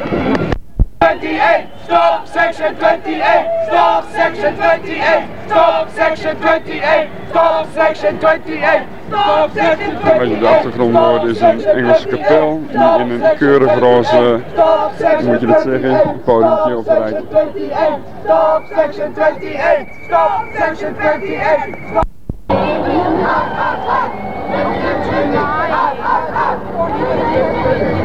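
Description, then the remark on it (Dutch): A large crowd outside a church jeers and shouts continuously as the rest of the party leaves, about a quarter of an hour after Queen Elizabeth's car, voices overlapping into a loud, dense roar with rising yells and whistles, briefly cutting out before the din resumes. “De rest die vertrekt zo'n kwartier later en het gejoel begint ook weer opnieuw.”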